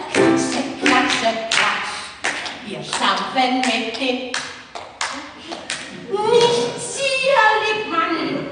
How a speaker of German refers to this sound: Nur Pflegerin Sarah stört die schönen Gedanken und quält sie mit albernen Bewegungsübungen. Wir klatschen in die Hände.